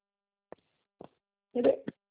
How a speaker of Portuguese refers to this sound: Meu telefone está ligando.